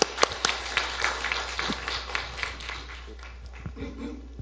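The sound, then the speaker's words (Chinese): An audience at a church testimony meeting applauding three people, with a dense, steady patter of many hands clapping at once that continues for several seconds at moderate volume, with no voices over it. “我们先给他们三个人一个热烈的掌声，把这声交给他。”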